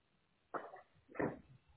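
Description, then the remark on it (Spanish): A dog gives two short, sharp barks about half a second apart, muffled as if heard over a phone line, with quiet background otherwise; it is the speaker's own dog, which the speaker was tussling with. “Estaba peleando con mi perro.”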